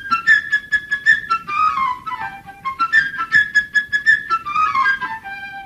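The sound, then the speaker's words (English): A high flute plays a quick, chirpy melody of rapid repeated notes, trills and short sliding phrases representing the bird Sasha in the musical score of Peter and the Wolf, over a faint low orchestral background. “The bird, whose name is Sasha. Damn. By a flute, way up high.”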